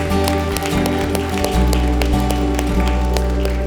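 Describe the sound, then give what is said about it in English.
A crowd claps in a steady, quick rhythm, the sharp claps ringing out over sustained low keyboard or organ tones that swell midway through. “Can we put our hands together for those that responded to that today?”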